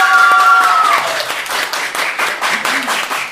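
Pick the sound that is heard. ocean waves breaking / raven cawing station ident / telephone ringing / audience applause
audience applause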